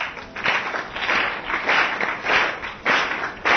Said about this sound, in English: And Lord Chaitanya Mahaprabhu taught them, this is how. Clap your hands.